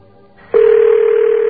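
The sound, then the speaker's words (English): As a telephone is picked up, a dial tone starts abruptly after a faint hiss and holds as a loud, steady, low-pitched hum with a layer of line noise beneath it. “Let's pick up the phone again.”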